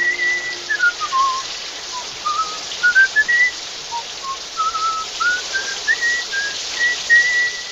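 Cary Grant whistles a wandering, melodic tune in a shower in Alfred Hitchcock's film North by Northwest, the clear notes gliding up and down over a steady hiss of spraying water.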